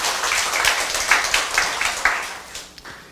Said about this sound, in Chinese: 让我们再一次鼓掌